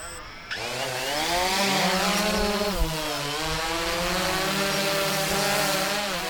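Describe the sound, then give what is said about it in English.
A small DJI Phantom 2 quadcopter drone, an older model, whirs as it flies in Bristol Bay, used by a fishing boat captain to market salmon. Its high, buzzing rotor whine starts abruptly and holds steady with slight pitch wobbles as it hovers and maneuvers, loud and continuous with no talking. “This is a little DJI Phantom 2 drone.”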